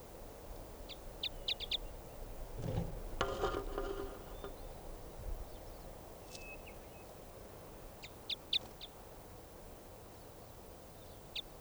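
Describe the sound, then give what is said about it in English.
A bird, labelled 577, calls loudly in short, high, repeated notes, a quick burst of four or five near the start and another cluster later, standing out sharply over a low rumbling background. “So 577 was the loud bird there.”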